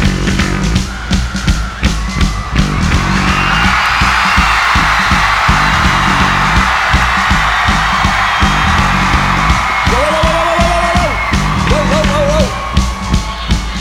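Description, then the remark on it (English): A huge concert crowd in Milton Keynes roars, screams and cheers wildly and continuously, a dense wall of noise with shrill whoops and yells rising above it, loud and sustained throughout. “I need every single person here in Milton Keynes to freak out.”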